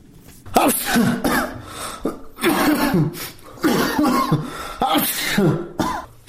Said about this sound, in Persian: در بستر بیماری عطسه می زند.